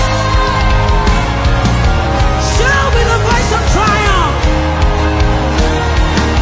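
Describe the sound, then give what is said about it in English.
A large crowd shouts and cheers together in a sustained roar, responding to a preacher's call to shout with a voice of triumph, voices overlapping loudly and continuously, with scattered rising whoops breaking above the din. “Shout with a voice of triumph.”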